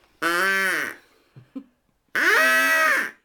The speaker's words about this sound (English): Excuse me, I'm just going to blow my nose.